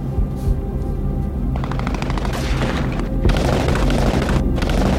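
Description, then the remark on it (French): Loud gunfire as the paratroopers of Carmine 2 are caught in crossfire and bullets hit the first soldiers: a deep booming rumble gives way to rapid, rattling automatic bursts that crackle on without pause, dense and harsh, with no voices. “Les balles sifflent et touchent les premiers soldats”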